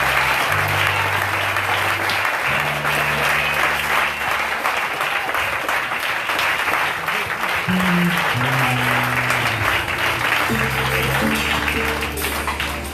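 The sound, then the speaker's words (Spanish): Steady, sustained applause from a crowd at a prayer service, clapped over a person's head, a dense rush of clapping that stays loud for the whole stretch, with low sustained keyboard chords shifting underneath. “Eso aplaudí sobre tu cabeza porque la palabra ha fluido sobre ti.”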